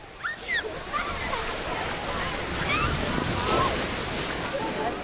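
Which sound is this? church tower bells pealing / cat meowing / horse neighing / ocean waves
ocean waves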